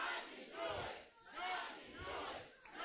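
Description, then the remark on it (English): An audience shouts "God can do it" in unison three times, each loud collective cry swelling and fading in a steady rhythm with brief dips between them. “Oh, I need y'all to give me three more shouts of God can do it.”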